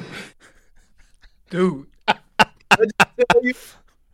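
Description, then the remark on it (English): A person's voice imitates a dog, as an 'NBA bark': one drawn-out, whiny yelp, then a quick run of about six short, sharp barks, loud and punchy, before trailing off into silence. “Hey, that was a real dog right there.”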